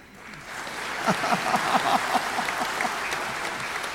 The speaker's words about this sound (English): And if you clap your hands for me right now, I will only talk for 10 more minutes.